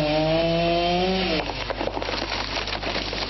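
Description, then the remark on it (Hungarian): A chainsaw used by the Szolnok fire brigade after a storm runs at a steady high whine, then bites into a fallen tree, its tone dropping into a rough, uneven grinding as it cuts through the timber. Loud and continuous throughout, with no voices. “Fakivágás és facsankolásos munkálatokat végeztünk.”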